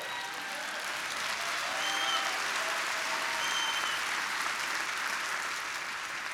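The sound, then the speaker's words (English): An audience claps steadily for several seconds, a dense, even wash of many hands with no clear individual beats, holding at a fairly constant loudness throughout. “If you're uncomfortable with people praising the Lord and clapping their hands, you're going to be one miserable wretch when you get to heaven.”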